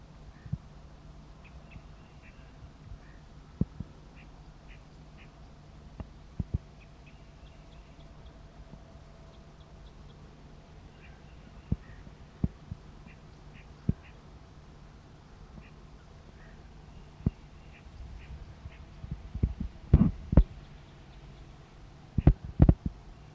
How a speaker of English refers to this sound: Decoy responds with a flight call.